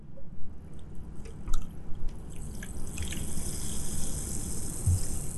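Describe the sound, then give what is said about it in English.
Soda pours into a cup, a gurgling splash that builds into a steady fizzing hiss as the bubbles rise, with a few drips and clinks early on. “Bring your cup over here or bring your thing over here and pour it.”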